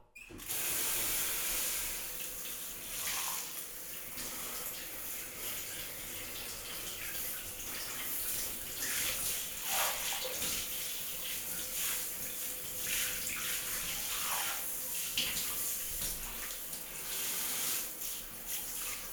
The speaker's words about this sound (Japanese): お風呂場出る前にシャワーで汗を流してあげるね。